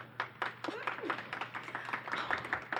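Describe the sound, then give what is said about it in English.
A small audience claps to vote for Anka Gams, a steady patter of quick, overlapping claps throughout, with a few brief voices and cheers mixed in, moderately loud. “Okay, so if you would like to vote for Anka Gams, please clap.”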